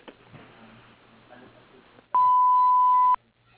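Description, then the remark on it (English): A single steady answering machine beep on a landscape architecture office's phone line, loud, holding one pure tone for about a second after a stretch of quiet, low background murmur. “And I'm sorry no one's in the office at this time to take your call, but if you leave the message at the beep, we'll return your call as soon as possible.”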